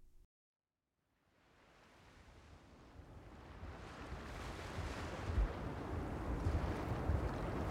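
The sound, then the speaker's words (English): After a moment of silence, a gale wind and sea waves swell up, building steadily into a loud, continuous roar with deep rumbling gusts and surging surf. “The fisherman's voice was so faint and frail, it was difficult to hear in the fast-rising gale.”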